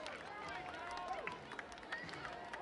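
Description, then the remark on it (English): Baseball stadium crowd noise as Bandits reliever Sears gets ready to pitch on a two-two count: a steady roar of murmuring voices with scattered, sharp hand claps popping out now and then, no clear rhythm, at a moderate level throughout. “Crowd clapping its hands.”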